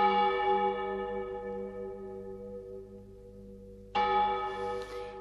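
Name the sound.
church bell ringing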